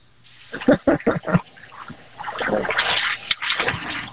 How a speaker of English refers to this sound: At least we got to hear one duck hit the water, man.